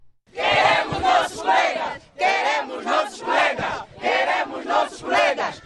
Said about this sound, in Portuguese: Queremos nossos colegas! Gritou-se bem alto pelo levantamento da suspensão de 6 meses aplicada a 2 estudantes da Faculdade de Medicina da Katiavala Buila, a Universidade Pública da Região Académica número 2, que compreende as províncias de Benguela e